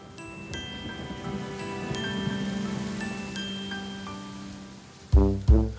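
Steady rain patters down in a continuous hiss, with faint sustained musical tones over it and a few louder notes breaking in near the end.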